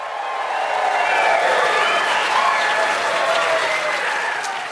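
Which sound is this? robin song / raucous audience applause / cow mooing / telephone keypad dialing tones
raucous audience applause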